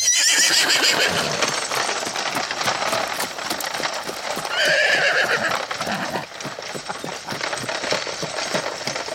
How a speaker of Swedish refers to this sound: Lite annorlunda hem till gården, men hästarna är med. Det här är ju då Draculas vagn, va?